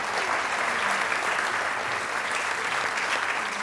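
Sustained audience applause, a dense steady wash of many hands clapping at an even, fairly loud level throughout, with no voices standing out.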